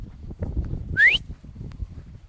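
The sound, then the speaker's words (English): A single short, sharp whistle with a quick upward sweep in pitch, loud, sounding once over low outdoor wind rumble, used on a walk to call a dog back, which turns and returns. “The magic whistle, and she turns on her heel and comes back.”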